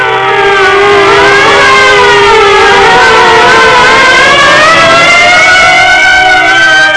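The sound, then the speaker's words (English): Several sirens wail together in overlapping, slowly rising and falling tones, loud and sustained throughout, with a low rumble of traffic or engines beneath and no one speaking. “At the sound of the sirens, Marv's huge bulk quivered.”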